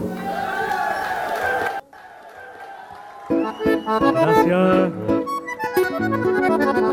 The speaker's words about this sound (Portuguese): O aplauso das senhoras e dos senhores para o cantor